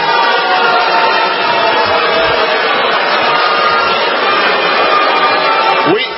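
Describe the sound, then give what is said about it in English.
A large crowd boos loudly and continuously at a speaker arguing against Medicare for All, a dense, unbroken roar of jeering voices that holds steady for several seconds without letting up. “They're booing and they're not stopping.”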